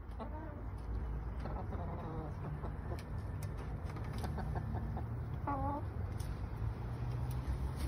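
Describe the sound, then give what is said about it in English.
Backyard chickens cluck and squawk in scattered bursts over a steady outdoor hiss, with a few short bird-like calls popping up now and then. “She even supplies her eggs from the chickens in the backyard.”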